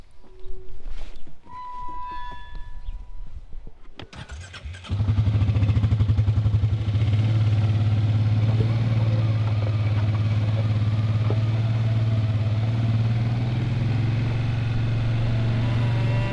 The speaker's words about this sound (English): Well, we are going to hop on your quad bike and head out onto the farm.